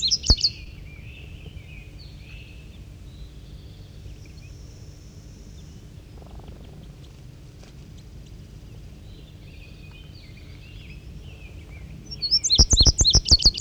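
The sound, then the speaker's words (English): A bird sings in bright, high chirps, with a clear burst at the start and a louder run of rapid, repeated notes near the end, over a steady low background hum. “And I believe it's 5-3 there doing the singing.”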